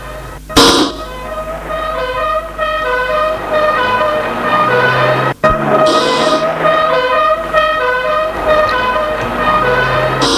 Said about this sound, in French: L'on entend les sirènes des voitures de police.